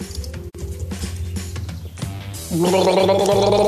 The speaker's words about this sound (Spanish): Es que hoy estoy un poco con la voz. Sí, uy, sí, sí se nota, sí. Entonces voy a tener que tomar un poco de agua. Permítame un segundo.